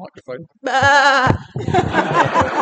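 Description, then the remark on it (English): A child's voice imitates a sheep's bleat with one long, wavering, quavering "baa", framed by brief speech before and a burst of adult talking right after. “Oh, yes, the sheep say bah, but please, could I have a human sheep voice?”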